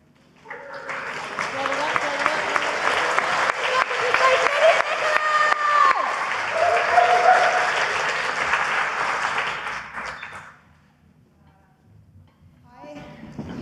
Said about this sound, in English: I'm going to introduce to you our next act straight away. Is that all right? Start the applause.